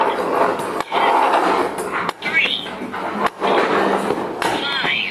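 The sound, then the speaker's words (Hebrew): A few sharp hammer bangs ring out at irregular intervals over a busy background of voices and household clatter. “בוא תעשה עם הפטיש בום.”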